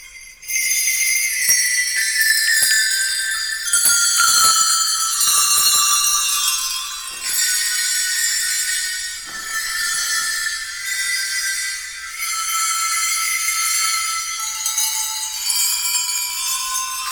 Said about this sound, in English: Now, this, Deegan made tuned sleigh bells. This was made by another company, but it's exactly the same sleigh bells that Deegan used. Mm-hmm. So these are even more rare, I think. So you could play.